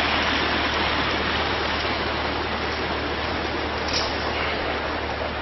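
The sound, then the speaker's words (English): A large waterfall roars with foaming water in a steady, dense, hissing rush that never lets up, loud and even throughout, with no voices. “You can see again this, some of these large waterfalls with this foaming water.”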